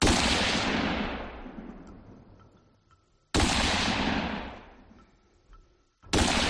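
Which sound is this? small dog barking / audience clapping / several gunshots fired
several gunshots fired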